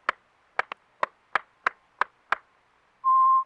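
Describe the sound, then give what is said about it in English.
Eight sharp hand claps of Fijian sow hand clapping in a steady, slightly uneven rhythm, with one quick double clap, followed by a short steady electronic beep at the end. No voices. “And sow hand clapping.”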